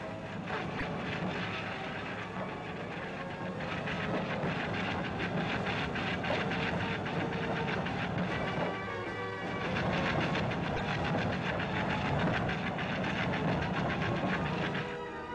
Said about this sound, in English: Fountains sent lava cascading over the land, and some of it encountered underground water, resulting in great explosions of steam and throwing lava chunks high into the air with a roar of 100 jet engines at full power.